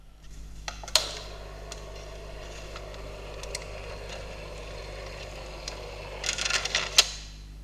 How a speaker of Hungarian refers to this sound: Újból helyezzük áram alá a motort. Visszajelzésként a motor elindul az egyik irányba, és körülbelül 5 másodpercig forog.